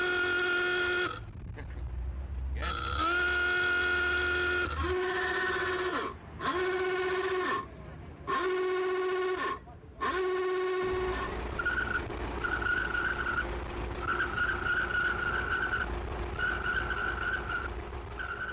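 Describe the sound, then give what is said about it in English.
A series of old-fashioned motor car horns, whistles and klaxons from veteran and vintage cars at a rally in Ireland blare one after another, loud, some in short repeated blasts, others held long tones, ending in a warbling klaxon-like trill. “Those are the sounds of motor car horns, whistles, klaxons, sounds from the glory days of motoring, and you'll hear them whenever there's a rally of veteran and vintage cars held in Ireland.”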